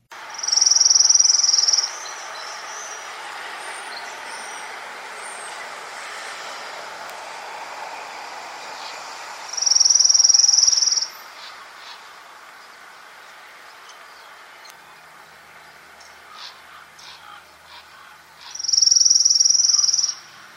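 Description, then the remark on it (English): An orange-crowned warbler gives three steady, high-pitched trills that do not change in pitch or speed, each lasting about two seconds and spaced roughly eight seconds apart, clear over a soft outdoor background hiss. “So that was the Orange Crown Warbler,”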